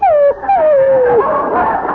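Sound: dog whimpering and yipping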